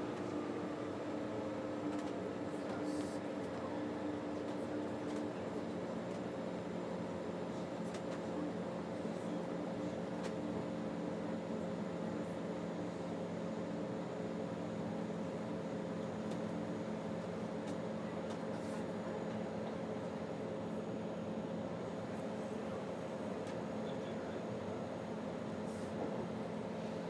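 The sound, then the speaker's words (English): Steady low mechanical rumble inside a late-running train as it makes swerving manoeuvres on its way into a station, with constant droning hum and faint squeaks and rattles, continuous and fairly even throughout, no voices. “Okay, we're starting a bit of sort of swervy manoeuvres now, so perhaps we're on our way in.”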